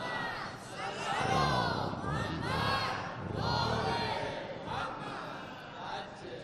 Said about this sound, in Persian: گفتم دیگه اسم سوره رو ببرم شما فریاد درود و سلامتون بلند میشه.